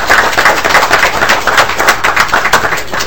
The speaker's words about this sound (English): Committee, let's do something non-traditional and give these folks a great hand for their work.